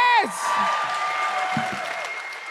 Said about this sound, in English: That makes me sad. Please clap louder. Yeah!